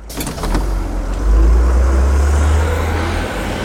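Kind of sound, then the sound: vehicle, bus engine driving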